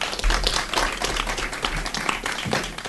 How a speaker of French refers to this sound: C'est l'alpha et l'oméga d'Estelle Tarot que je vous invite à applaudir.